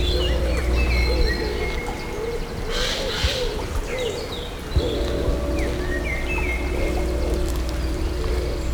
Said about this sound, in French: Je dirais la houle de la forêt. Envahit ce paysage boisé. Oiseaux, un léger cours d'eau.